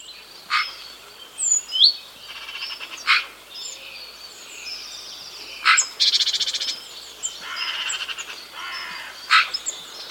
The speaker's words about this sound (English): Now we have our Sounds of Nature feature. This week, we get to hear the magpie.